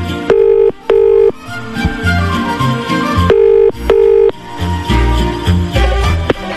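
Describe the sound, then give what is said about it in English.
A telephone ringing tone as Capital FM radio phones the North London Performing Arts Centre: two double bursts, brr-brr, a pause, then brr-brr again, clear and fairly loud over a busy background of music and noise. “So let's make another phone call.”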